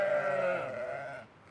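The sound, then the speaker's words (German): A freshly shorn sheep, one of 12 ewes in a large enclosure in front of a barn with lambs around them, gives a long, wavering bleat, loud and harmonic, trailing off after about a second. No one speaks. “Die Schafe stehen vor dem Stall in einem großen Gehege, frisch geschoren mit prallen Eutern. Um sie herum Lämmer.”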